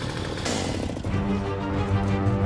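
chainsaw cutting

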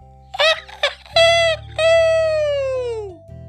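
rooster crowing

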